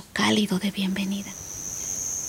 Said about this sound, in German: Fledermäuse flattern durch die Luft und Grillen zirpen.